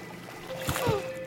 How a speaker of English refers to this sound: I gotta admit, these water noises are kind of cool.